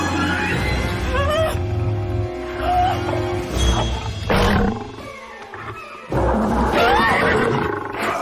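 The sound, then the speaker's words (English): A lion roars loudly in several rough, sustained bursts separated by brief pauses, with a final powerful roar near the end. “I'll take care of the lion, and you save the fair lady.”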